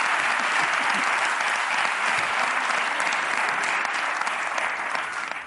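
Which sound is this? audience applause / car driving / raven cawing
audience applause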